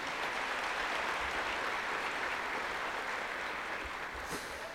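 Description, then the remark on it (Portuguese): An audience at a church service applauds Jesus in a steady, dense wash of clapping that holds at an even level throughout, with no speech over it. “Você pode aplaudir a Jesus aí?”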